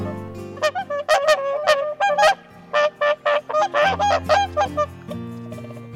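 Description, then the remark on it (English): Whooper swans arriving in the UK from Iceland honk in a loud, overlapping chorus of brassy, trumpeting calls like a broken old car horn, coming in quick irregular bursts over about six seconds, clear with a low background rumble. “Many travel big distances to the UK, and up to 16,000 whooper swans descend from Iceland, announcing their arrival with honks that sound a bit like a broken old car horn.”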